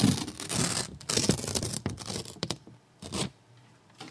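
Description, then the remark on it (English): Crisp ripping of a paper envelope being torn open in several rough bursts, with a short pause before a final quick tear; no one speaks. “grab the envelope and gladly open it and let us know the moral of today's show.”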